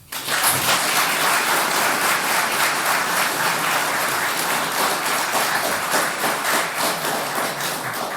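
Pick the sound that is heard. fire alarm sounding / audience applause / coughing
audience applause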